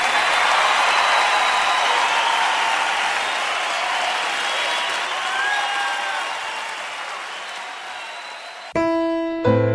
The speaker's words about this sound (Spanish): Aplausazo ahí, che